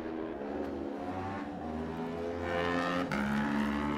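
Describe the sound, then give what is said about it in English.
A racing motorbike, an Aprilia, sets off at the TT races, accelerating hard, its engine whine climbing in pitch, dropping briefly at a gear change, then rising again, loud with no voices. “Fantastic times from these different makes of motorbikes as they head off from here.”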